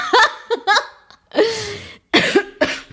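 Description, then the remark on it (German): A few short, sharp vocal bursts like coughs, then a longer, throaty burp with a low rumble, followed by more brief coughing sounds, fairly loud, with no talking. “Ja, du hustest, ich huste, du rülpst.”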